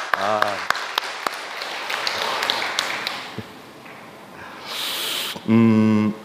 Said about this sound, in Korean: 우리 하나님한테 우리 한번 박수 한번 돌려드리죠. 다시 한번 좀 기쁜 마음으로 좀 해주시겠습니까? 좀 박수 한번.